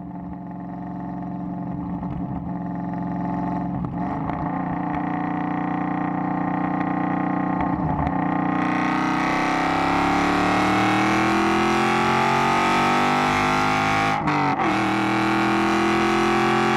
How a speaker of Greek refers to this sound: Ο κινητήρας. 2,6 V8. 2,6 V8. Προέρχεται από τη Στραντάλε, ένα άλλο θρυλικό, ίσως αν όχι το πιο όμορφο αυτοκίνητο όλων των εποχών, ένα από τα πιο όμορφα αυτοκίνητα όλων των εποχών.